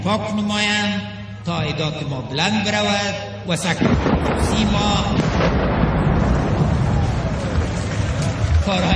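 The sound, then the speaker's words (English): A man gives a presidential inaugural speech over a loudspeaker, then a loud explosion bursts nearby about halfway through, one of several that shake the building, followed by sustained rumbling, crackling noise and crowd commotion that drowns out the voice. “When that happened, several explosions happened nearby, and we've just had the footage through.”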